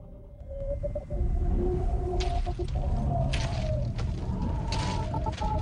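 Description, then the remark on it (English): Electronic interference noise from a rover: wavering mid-pitched tones drone over a constant low rumble, broken by repeated bursts of hissy static, loud and continuous throughout, with no voices. “Sounds like, interference from the rover.”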